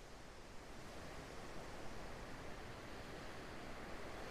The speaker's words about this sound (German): Und während du weiter dem Rhythmus der Wellen folgst, merkst du, dass auch an deinem Bauch- und Beckenbereich diese Ruhe des Meeres anfängt, sich auszubreiten. Mit jeder Welle ein bisschen mehr.